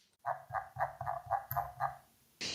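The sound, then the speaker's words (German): A computer mouse wheel squeaks in a quick, even run of about seven nasal, duck-like quacks, fairly loud and alone, followed by a short burst of hiss at the end. “Mein Mausrad macht wohl angeblich das Geräusch einer Ente.”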